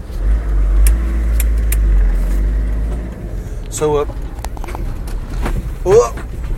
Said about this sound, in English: we're pulling into the car park here of the, what's it called, the Bridge Inn? I think it is. The Rooster.